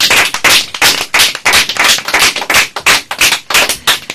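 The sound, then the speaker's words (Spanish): Visitors at the COPE radio station applaud loudly and steadily, dense overlapping handclaps forming a sustained roar with slight rhythmic pulsing throughout, no voices heard over it. “Ala, vamos a darnos sí. otro aplauso porque la COPE es el número uno y vosotros también.”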